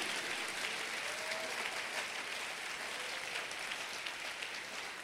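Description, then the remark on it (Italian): An audience applauds for Jesus together, a dense, steady wash of clapping that holds at an even level for several seconds with no one speaking over it. “Facciamo un applauso a Gesù.”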